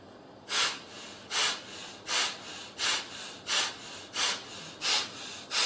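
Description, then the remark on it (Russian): Audible ordinary belly breathing being demonstrated in a steady rhythm, about eight airy breaths in quick succession with brief pauses between them, heard alone without any talking. “Ну, вот обычное дыхание такое.”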